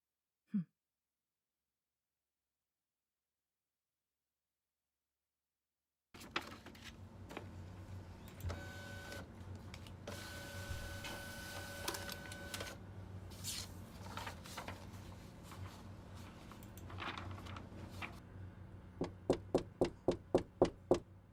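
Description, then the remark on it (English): A photocopier whirs and rattles steadily after a moment of silence, with mechanical clunks and a brief hum, ending in a quick run of evenly spaced clicks as copies come out. “Anyways, I gotta go make these copies, so I'll be getting back to it.”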